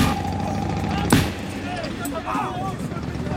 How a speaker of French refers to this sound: Le jeune homme vient de bondir et de tirer deux balles à l'arrière de la limousine. Les vitres se lézardent.